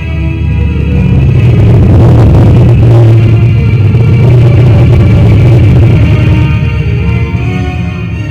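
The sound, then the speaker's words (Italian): Spaceship thrusters fire as the ship departs a space dock, a loud, steady, deep rumbling roar, a low engine-like drone with a faint higher hum riding on top, holding strong for the whole stretch. “Propulsori accesi. Distacco da molo spaziale.”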